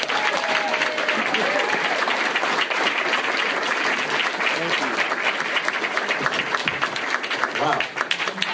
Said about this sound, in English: I must say, let's give a round of applause to Miss Virginia and Pastor Edwards. Thank you two so much.